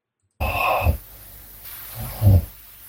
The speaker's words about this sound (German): Er schnarcht, ja gut. Das hätte ich mir jetzt schon denken können.